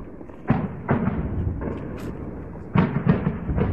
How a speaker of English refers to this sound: In this video posted by activists, machine gun fire and loud explosions can be heard in Deir al-Zur.